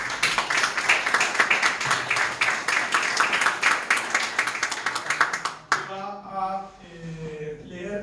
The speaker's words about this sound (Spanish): tenemos aquí y saludamos muy especialmente la presencia de la actriz Estela Medina, que va a... Sí, pido un aplauso para ella.